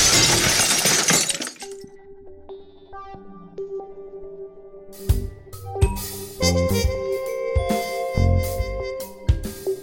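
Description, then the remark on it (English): A loud crash of a plate glass window shattering bursts out at the very start and fades within two seconds, followed by ringing electronic tones and a thumping musical beat. “Yeah, we could just say goodbye and jump through a plate glass window.”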